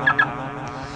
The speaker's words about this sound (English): Yo, hold up. Let me get out of my car and lock it.